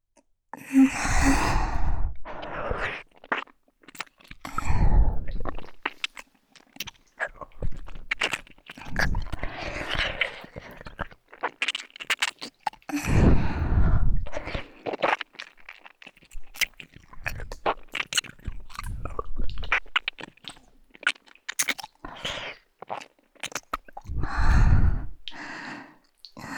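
ear licking sounds

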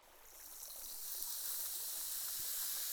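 fizzing liquid being poured

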